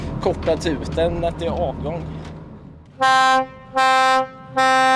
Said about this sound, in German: Der typische Sound des Sommers. Das ist für mich das dreifache Tuten der Boote, wenn sie losfahren.